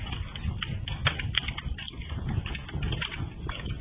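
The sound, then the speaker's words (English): A crackling fire pops and snaps irregularly over a steady low rumble, with a few sharper cracks standing out. Nobody speaks. “Well, enjoy the crackling fire.”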